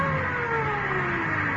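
A car engine hums, its tone sliding gradually lower as the vehicle slows and pulls up, steady and fairly loud with no voices.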